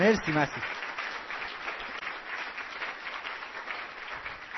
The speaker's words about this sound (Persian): یه دور دیگه تشویقش کن.